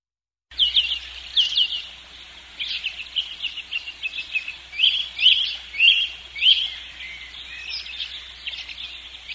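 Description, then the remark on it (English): Birds chirp and twitter continuously, several calls overlapping in quick, irregular bursts, with no voices present. “All right, the birds beat me back in.”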